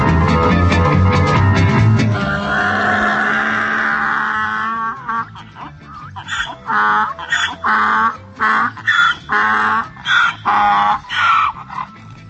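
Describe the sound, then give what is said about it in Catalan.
Donkeys braying loudly: a long, harsh, wavering call gives way to a rapid series of rhythmic, rasping hee-haw bursts that rise and fall. No one speaks. “Això que sentiu són ases, altrament dit rucs i burros, i en femení someres.”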